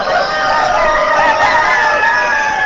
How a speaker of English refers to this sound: In the poultry barn of the Wisconsin Valley Fair, hundreds of roosters are giving their young owners something to crow about